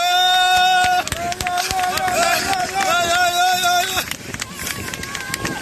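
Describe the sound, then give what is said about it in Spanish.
On a beach, a crowd claps and cheers for two men who ran into the sea and rescued a drowning young woman about 50 metres from shore, with dense, uneven bursts of applause and loud, sustained shouting voices rising above it, then the cheering fades while scattered clapping continues. “Suenan los aplausos de la gente que celebraba el hecho.”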